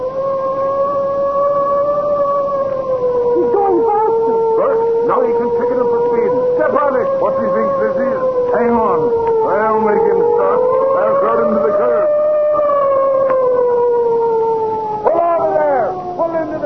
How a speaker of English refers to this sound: I'd better speed up and warn him. That spalpeen, is he trying to race with me? Give him the siren. That I will.